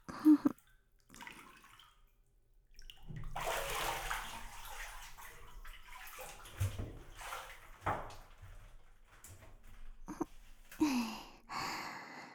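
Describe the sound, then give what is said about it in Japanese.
Water sloshes and splashes in a bathtub as someone climbs out, a few seconds of churning followed by scattered drips and splashes, fairly loud, with no talking. “ほら、お風呂から出て。”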